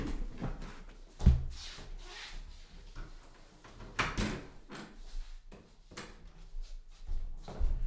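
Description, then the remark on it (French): A door is opened to let a cat out, with a sharp knock of the handle and latch followed by creaking, rubbing wood and shuffling movement, then a few quieter bumps later on. No one speaks. “évidemment, attendez, je vais ouvrir au chat parce qu'il s'énerve.”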